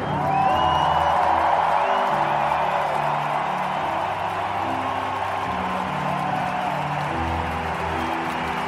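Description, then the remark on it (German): A large crowd of fans at a concert in Munich roars and cheers continuously, a dense wall of voices with scattered whoops rising above it, loud and sustained throughout without a break. “Ja, das klang jetzt nicht nach kritischer Auseinandersetzung der Fans mit den Vorwürfen gegen ….”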